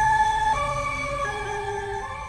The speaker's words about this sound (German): Hörst du die Sirenen? Da kommt eine Menge Ärger auf dich zu.